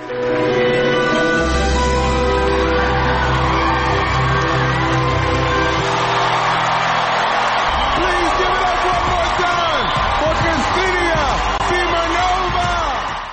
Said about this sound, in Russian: Зрители и судьи стоя аплодировали Симоновой после выступления. Давайте послушаем, как же это было.